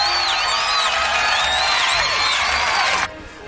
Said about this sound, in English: What was that? Why were those people cheering? They're very happy about that Star Wars.